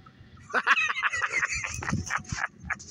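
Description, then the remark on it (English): A flock of birds honks and squawks in a dense, overlapping chorus of harsh, nasal calls that repeat in rapid bursts for a few seconds, fairly loud. “Looks like the birds got this one.”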